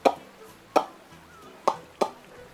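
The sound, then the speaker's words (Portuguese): A beach paddle ball, a blue ball, is struck back and forth with paddles on a beach: four sharp, hollow pocks at an uneven pace, crisp, with a quiet background and no talking. “Logo a seguir a pessoas que jogam raquetes de praia em cima de nós, com aquelas bolas azuis, que fazem um barulho que parece que alguém tem uma panela de pipocas gigantes ao lume.”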